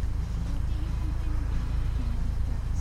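A video game car engine, started by pressing A on a controller, rumbles to life and keeps running in a steady, loud, low drone with a slightly wavering hum, continuous throughout.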